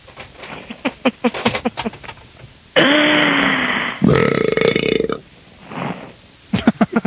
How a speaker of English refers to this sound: The burp seemed to bother her.